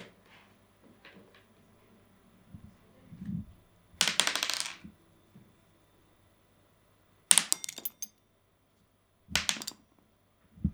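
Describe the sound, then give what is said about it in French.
A die clatters and bounces across a hard surface in three sharp, rattling bursts separated by quiet pauses, fairly loud; it jumps and lands showing a one. “Un dé, il a sauté. C'est le 1.”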